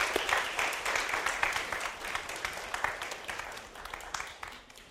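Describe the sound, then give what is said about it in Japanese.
Sustained audience applause welcoming a man and the members of his group called forward to be prayed for, a dense wash of many hands clapping at a steady, moderate loudness that tapers slightly toward the end. “Let's give him a hand of encouragement.”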